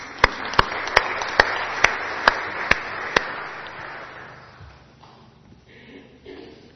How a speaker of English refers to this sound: Thank you so much, and I think they deserve another clap.